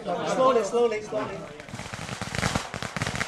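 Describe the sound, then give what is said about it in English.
A voice speaks briefly, then fireworks burst into a rapid, dense run of crackling pops and bangs that carries on steadily, fairly loud, during a visit to family graves with about 40 members of an extended family. “Amid fireworks, he visits the family graves with 40-odd members of his extended family.”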